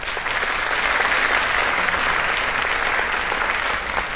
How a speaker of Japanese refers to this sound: 大きな拍手で採択されました。ありがとうございます。